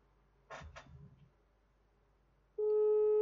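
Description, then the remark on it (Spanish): A couple of brief rustling clicks, a short pause, then a loud, steady electronic telephone tone begins as a call is placed to a relative's phone, holding unbroken to the end, clear with no voices. “El teléfono al que está llamando se encuentra fuera de...”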